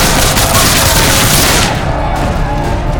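A dense, loud barrage of gunfire and booming cannon blasts in the battle for Fort Washington rolls on continuously, a chaotic battle din that thins slightly toward the end.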